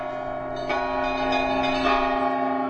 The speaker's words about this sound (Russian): Колокол созвонится Кремля, зовет астраханцев на вечернюю службу.